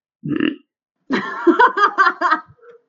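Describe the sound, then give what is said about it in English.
A brief, low burp-like snort, then after a short pause a longer throaty, croaking burp that pulses in several quick beats. It is fairly loud and has no talk over it. “Did he say snork burp?”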